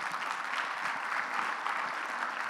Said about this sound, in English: So again, a round of applause.